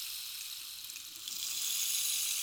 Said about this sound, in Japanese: 綺麗な音。まるで雨音のようだろう。これはレインスティック。